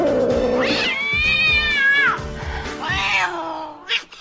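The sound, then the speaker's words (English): A cat meows in long, drawn-out, wavering cries, two extended yowls, with a brief chirp at the end and a low rumbling background beneath. “Nothing like a cat on the toilet humor either.”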